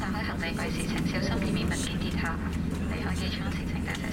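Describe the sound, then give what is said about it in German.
A steady, low airplane engine drone on a flight to Hong Kong fills the background throughout, a constant cabin hum running beneath a voice speaking over it. “Um meine Fragen endlich zu klären, steige ich ins Flugzeug.”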